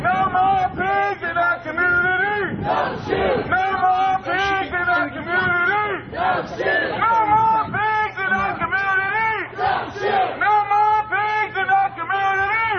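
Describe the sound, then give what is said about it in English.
A large crowd of protesters carrying signs chants "No justice, no peace" and "Hands up, don't shoot" in unison as they march up Pacific Avenue in Santa Cruz toward the police station, many voices rising and falling together in a steady, repeated rhythm that stays loud and continuous throughout. “A lot of white folks, an occasional black face or two, walking up Pacific Avenue. No justice, KNOW, no justice, no peace.”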